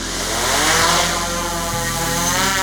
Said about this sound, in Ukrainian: Це сапери підіймають у небо квадрокоптер – перша розвідка території. Завдяки дронам можна багато чого побачити.